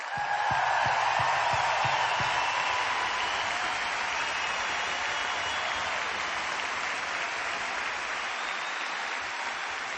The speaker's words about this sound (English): Let's give them a huge, like ridiculously huge round of applause. Come on!